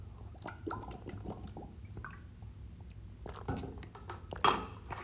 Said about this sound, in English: I'm gonna get a little bit of water here.